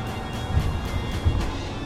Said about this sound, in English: The traffic's getting heavy up here, and I have to decide whether to head to the left and go over to Pulaski Skyway or take truck 1 and 9 down into some of the shitty parts of Jersey City.